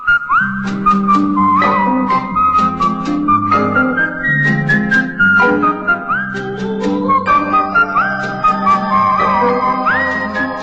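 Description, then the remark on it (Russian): In a song recording, the singer whistles a bright melody with gliding notes over a full band accompaniment of bass, rhythm and percussive strums. The music is loud and upbeat, with no singing or talking. “…, ….”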